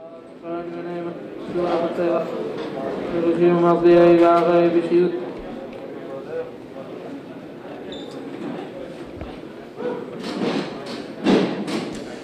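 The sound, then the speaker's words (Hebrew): A group of voices recites Psalms together in the study hall (beit midrash) in Bnei Brak, in a rising, sustained chant that swells loudly, then settles into a steady murmured recitation, punctuated by a few soft thumps. “אנחנו שומעים ברקע את אמירת התהילים בבית המדרש בבני ברק.”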